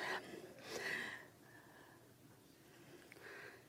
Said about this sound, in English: Smell your cookies, guys. Go ahead, give them a sniff. Go ahead, smell them. Don't eat them.